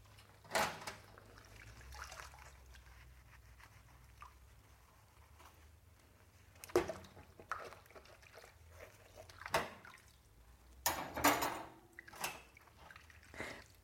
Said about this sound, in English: So you're seeing you're seeing washing up, washing dishes in a new light, a new way, a fresh start, a fresh way. Almost like it's the first time you've ever done this. You see everything about it. You see the soap suds on the spoon.